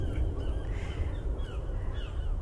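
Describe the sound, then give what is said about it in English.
Seagulls call repeatedly, with several harsh, rising cries overlapping over a steady low rumble of wind or surf outdoors. “Now for 2022, we have our annual theme of Living Everyday Wonder, and we are certainly doing that today, right here in the wonder of nature and the seagulls.”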